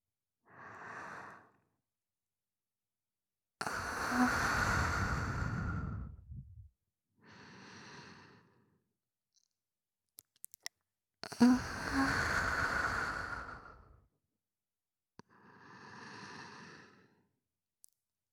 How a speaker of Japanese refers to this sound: よろしいですか、お客様。私の吐息を聞き逃さないよう集中していてくださいね。